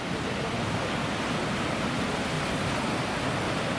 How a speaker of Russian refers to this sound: И там еще волна за волной, волна за волной. Очень красиво.